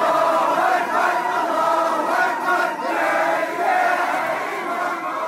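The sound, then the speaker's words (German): A large crowd of supporters cheers and shouts continuously at an airport, welcoming Ennahda party leader Ghannouchi back from more than 20 years in exile, a dense wall of excited voices that swells slightly at moments but never lets up, loud for the whole stretch. “Ghannouchi, Chef der unter Ben Ali verbotenen islamistischen Ennahda-Partei, kehrte nach mehr als 20 Jahren aus dem Exil zurück und wurde am Flughafen von jubelnden Anhängern empfangen.”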